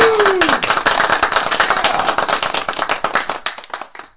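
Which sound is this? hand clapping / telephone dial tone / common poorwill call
hand clapping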